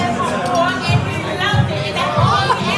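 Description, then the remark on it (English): A steady babble of many overlapping voices, a crowd chattering at once with no single speaker standing out, the murmur holding a constant, fairly loud level throughout. “Reporting live from the crowd.”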